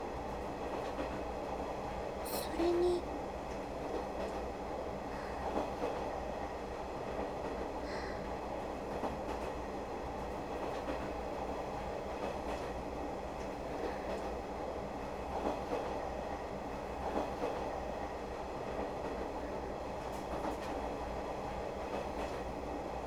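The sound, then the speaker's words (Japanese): A train rolls along with a steady, dense rumble, while a few irregular clacks of wheels over rail joints poke through now and then. A voice briefly speaks early on. “ジョイントン、カタンコタンってギャンクリアにいつも聞こえてくれるなら、イオン検知もめちゃくちゃ楽になるとよね。”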